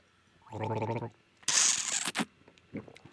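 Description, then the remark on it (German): Someone gargles with water, a bubbly, rattling throat sound lasting about half a second, followed by a louder hissing, sputtering burst and a few faint wet noises. “Aber mit Wasser googeln.”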